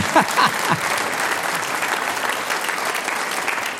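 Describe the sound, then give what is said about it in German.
An audience claps steadily, a dense wash of many hands that holds at an even, fairly loud level throughout, with a few brief voice-like sounds near the start. “Sie dürfen alle klatschen.”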